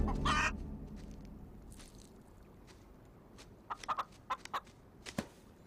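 Chickens cluck in a quick series of short, sharp calls near the end, with a louder squawk at the start, over a low, steady outdoor rumble.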